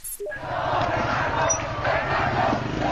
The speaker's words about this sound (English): A sea of government supporters in Tehran, hundreds of thousands strong, cheering and marching through the streets to mark the 31st anniversary of the Islamic Revolution.